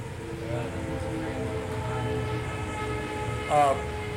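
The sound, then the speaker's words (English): A train rumbles past steadily, its horn sounding in long, sustained tones, with a brief sharper blast near the end over the continuous low roar of the cars. “It's that train.”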